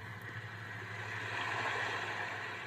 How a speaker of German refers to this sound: Ja, das Meeresrauschen, das müsstet ihr eigentlich recht gut hören. Und das sind dann so unterschiedliche. Ihr könnt da mal ein härteres Rauschen machen, also ein kräftigeres oder so wie hier so irgendwo am Ufer.